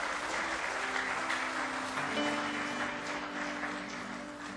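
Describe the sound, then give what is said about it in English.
An audience claps hands in praise of God, a dense, steady wash of applause from many people at a consistent loudness, with faint sustained musical tones underneath. “Give him one more real good hand clap of praise if you love him.”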